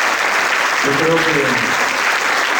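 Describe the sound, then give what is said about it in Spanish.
Steady applause from an audience honoring the Fundación San Pedro Rossi and the event organizers, dense and continuous clapping throughout, with a brief voice rising faintly beneath it partway through. “Entonces, regalémosle un aplauso en este día a esas personas que hacen posible que ustedes estén aquí cada mañana.”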